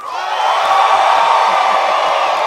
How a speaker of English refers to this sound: And then now scream.